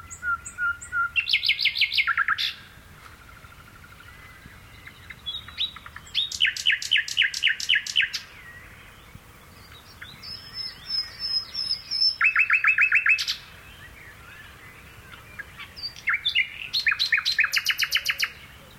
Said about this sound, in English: The British countryside is home to a vast array of creatures, but few whose song is quite as melodious as this nightingale, recorded by Philip Radford in Gloucestershire, England.